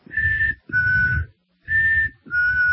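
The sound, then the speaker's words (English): A whistled two-note interval sounded twice: a higher sustained tone falling to a lower one, then the same pair repeated after a short pause. The whistling is clear, steady and alone, with no talking. “It's based on two notes, so but it's the most elementary interval.”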